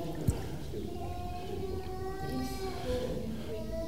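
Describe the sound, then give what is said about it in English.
Lemon and lime squash is poured steadily from a bottle into a container, with the gurgling tone climbing in pitch as it fills. A single faint knock sounds near the start; there's no talking. “The only way you can see what's in it is to pour out what's inside it.”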